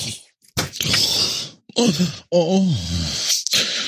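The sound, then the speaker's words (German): Raspy, rattling snore breaths from a sleeping man, broken by a low drawn-out groan and grunt as he stirs when nudged, then another harsh breath; no talking. “Stupsen Sie ihn mal richtig, dann dreht er sich wenigstens ein bisschen. Dann hört Moment, auf zu schnarchen.”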